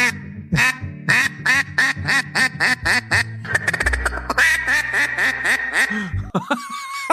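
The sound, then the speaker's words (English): A duck call blown loud in a rapid string of about a dozen nasal quacks, imitating a duck, with a low steady hum under the later ones and a brief tone at the end. “So all you got to do is try to make that sound like a duck.”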